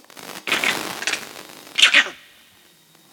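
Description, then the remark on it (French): An animal alarm call warning of a leopard: several harsh, raspy, hissing bursts in an uneven series, the loudest pair near the end, with no talking. “C'est le cri que font les animaux lorsqu'il y a un léopard dans le secteur.”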